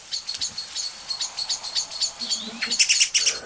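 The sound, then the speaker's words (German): A dense chorus of many songbirds, among them a blackbird and a song thrush, scolding in alarm loudly all at once, overlapping sharp chirps and scolding notes repeating rapidly and building toward the end, with no voices. “Richtig laut. Wie ich finde. Und es ist nicht nur eine Amsel oder eine Singdrossel. Es sind jetzt viele, ne?”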